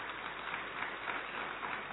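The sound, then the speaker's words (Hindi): A steady wash of applause from a crowd, many hands clapping together in a dense, even roar that holds at a moderate level throughout, with no voices standing out. “आपकी तालियों से महसूस हो रहा है कि आप सबने जो है अपनी आत्मा को ऊपर ले गए और फिर वापस लेकर आए शक्ति भर करके।”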